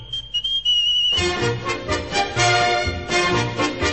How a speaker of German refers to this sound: Ich pfeife wie der Vogel pfeift in Wald und Flur und Heide. Ich pfeife aus lauter Freude an dieser schönen Welt.